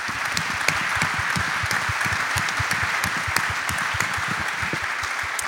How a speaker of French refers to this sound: Donc je vous demande, pour eux, pour vous, pour cette force du collectif qu'on a réussi à créer aujourd'hui, eh bien de vous applaudir et d'entamer par vos applaudissements cette sixième édition des Assises.